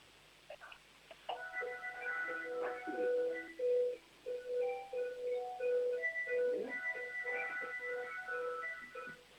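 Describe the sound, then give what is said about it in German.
A family's home doorbell plays a whole song: a chiming electronic melody with a string of bright, evenly paced tones that step up and down in pitch, with no voices. “Ich will auch eine Türklingel haben, die ein ganzes Lied spielt.”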